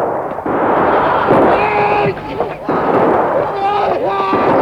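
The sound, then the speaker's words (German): A loud, sustained roar of massed musket fire and blasts as a ship's crew fires a volley at the ship Albatros, filling the whole stretch, with men shouting over the din in rising, strained cries. “Legt an! Feuer!”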